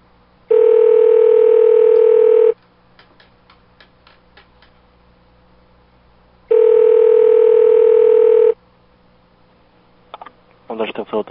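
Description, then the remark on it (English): A loud, steady telephone dial tone sounds for about two seconds, then a quick series of faint dialing clicks as someone calls a man back, then the same tone again, followed by a few short, scratchy bursts at the end. “I'm gonna call him back.”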